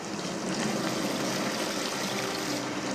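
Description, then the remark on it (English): A small stream running through a canyon with steep walls trickles and burbles steadily, a continuous wash of running water with no voices, holding an even level throughout. “You've got this little stream, you've got these steep canyon walls.”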